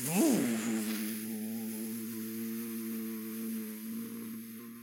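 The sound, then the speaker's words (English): A voice imitates a hovercraft engine with a steady buzzing hum, swooping up briefly at the start and then holding one droning pitch for about five seconds. “Hovercraft is hovering.”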